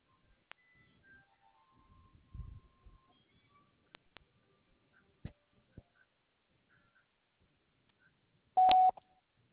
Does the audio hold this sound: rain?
no